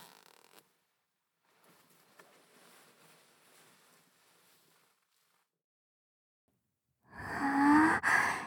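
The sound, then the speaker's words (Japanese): A soft, gritty rasp of a trouser zipper being drawn open over a few seconds, quiet, followed after a pause by a loud, breathy vocal sigh. “ここのチャックを開けちゃって。”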